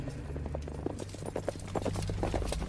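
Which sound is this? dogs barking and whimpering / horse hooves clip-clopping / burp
horse hooves clip-clopping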